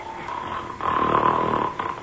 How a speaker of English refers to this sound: Whatever in the world is that roaring, snoring sound? Yeah. Oh! It's a giant! Asleep. Right in front of me in a clearing on the highest point of the mountain.